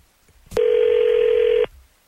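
A phone line clicks, then a single steady electronic ring tone hums loudly for about a second before cutting off, with no one speaking, as a call is placed from the 102.9 The Wolf morning show.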